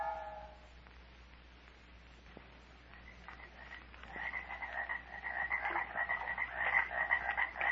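swamp ambience

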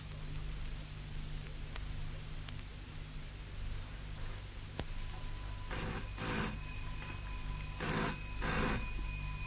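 telephone bell ringing

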